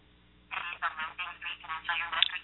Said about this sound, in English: Did y'all hear that? I did. Your phone just started giving you a... directions to somewhere. Apparently it wanted to give me directions, and it's now rerouting.